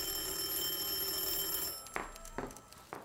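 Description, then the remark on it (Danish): An office telephone rings with a steady, bright trilling tone for nearly two seconds, then cuts off, followed by a few sharp clicks and knocks. “Der går ikke mange sekunder, før din telefon ringer.”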